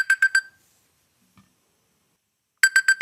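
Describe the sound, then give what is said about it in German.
A classic alarm clock ringtone: three quick, bright electronic beeps, a pause of about two seconds, then another burst of four beeps, crisp and fairly loud with nothing else around them. “Das klingt wie so ein klassischer Wecker, ne?”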